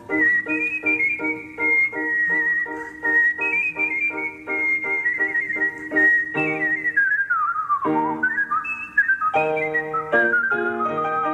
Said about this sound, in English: I've been whistling now for 30 years, probably.